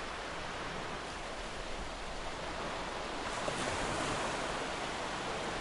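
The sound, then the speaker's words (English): Ocean waves wash steadily onto the shore in a continuous, full roar of surf, with a slight swell in intensity toward the end and no voices present. “and we got some other stuff coming your way, but first, a little bit of a cough coming up, so I'm gonna get back to this waves here.”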